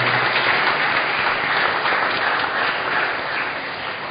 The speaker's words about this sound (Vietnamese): Cộng đoàn cho một tràng vỗ tay chúc mừng